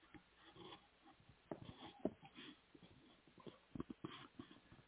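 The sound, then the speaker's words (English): Someone sips water, with a series of short, irregular slurps, gulps and breathy sniffs at a moderate level and no talking. “All right, let's get to the recalls after I take a sip of my water.”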